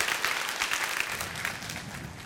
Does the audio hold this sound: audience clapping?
yes